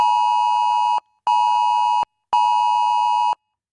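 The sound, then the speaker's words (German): Three loud, steady electronic tones in a long-short-long pattern, a smartphone emergency alert heard on many phones during Germany's nationwide warning day at 11 a.m., each a harsh harmonic beep separated by brief silences, with no voices. “So wird es heute um 11 Uhr wieder bei vielen Handys zu hören sein.”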